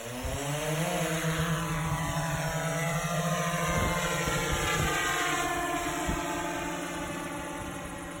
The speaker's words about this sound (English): to sum up, nobody should be in the coned-off drone zone when the drone is being flown, especially not with a phone, a scone, playing trombone, or wearing cologne, or it will really bone the drone.